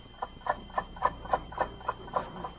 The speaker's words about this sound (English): All is silent, but for the ticking of an alarm clock.